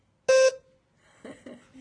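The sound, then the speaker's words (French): A wheelchair horn gives one short, loud, buzzy honk lasting about a quarter second. Quieter, indistinct voices or murmuring follow after a brief pause. “Klaxon avec ton fauteuil.”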